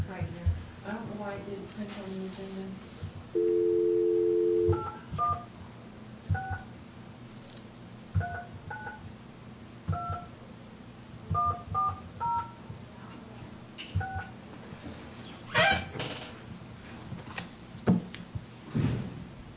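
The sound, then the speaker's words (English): A phone number is dialed on a touch-tone keypad: a short steady tone, then about a dozen quick beeps in uneven bursts, followed by a few faint clunks and rustles. “There's a phone number.”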